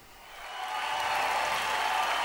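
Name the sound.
audience cheering and applause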